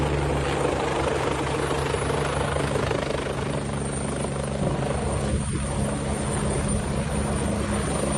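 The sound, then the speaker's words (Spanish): A firefighting helicopter's loud, steady rotor roar fills the whole stretch, dense and unbroken with a low throbbing beat, as it hovers to scoop water with its huge hanging bucket to drop on a fire. No voices. “Así suena cómo recoge el agua para poder acudir al incendio y dejarla caer sobre el fuego.”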